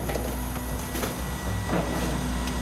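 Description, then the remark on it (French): A garbage truck's compactor grinds away in Montreal on a morning after moving day, as a crew collects waste quickly. The truck will hold 8 tonnes of compressed material by day's end. A steady mechanical rumble and hum with a few brief clanks and rattles of crushed waste, loud and continuous with no talking. “Ce camion-là, à la fin de la journée, il va avoir 8 tonnes de matière compressée à l'intérieur.”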